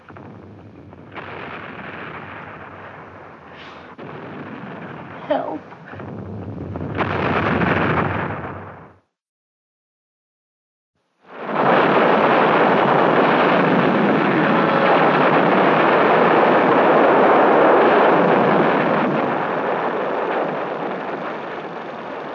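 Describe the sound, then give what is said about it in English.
Heavy artillery shelling rumbles in dense, continuous waves of booming explosions, breaks off into a few seconds of silence, then returns as a sustained, loud roar with no voices. “The movie was supposed to take their minds off the shelling.”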